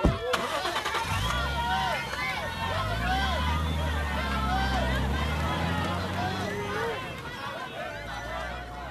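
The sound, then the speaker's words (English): A car engine cranks and turns over about a second in, then settles into a steady rumble that runs to the end, with busy crowd chatter and voices in the background. “Quick, get in the car.”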